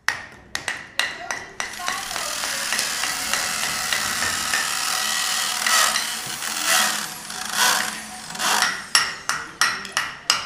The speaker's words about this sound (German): Bohrmaschinen, Zementsäcke, Hammer und Nägel. Die Arbeiten sind in vollem Gange. 40 niederländische Studenten bemalen Wände oder bauen Lichtinstallationen aus kaputten Glasfliesen und alten Wasserkanistern.